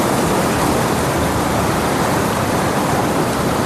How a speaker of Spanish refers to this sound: Y nos dejamos llevar por el sonido del mar mientras la brisa acaricia nuestro roto rostro al pasear.